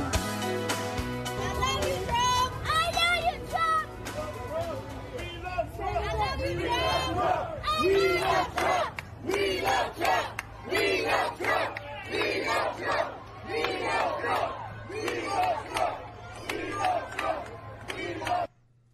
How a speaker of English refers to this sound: I think we're going to have to play that every day, at least for the next 6 months. Harlem shouting, "We love you, Trump," less than a week ago.